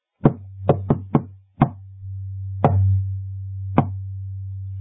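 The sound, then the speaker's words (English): A series of sharp knocks on a door, a quick cluster of five followed by two slower, spaced raps, over a steady low hum with no talking. “She heard a knock. He didn't use the key. It went like this.”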